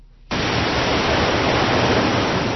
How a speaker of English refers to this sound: In a nature reserve about 100 kilometers south of the capital, the Mujib River rushes through a narrow canyon and toward the Dead Sea